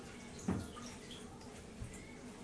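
Faint water splashing in a bathtub: a soft slosh early on and a smaller one later, over quiet, steady background water noise, with no voices.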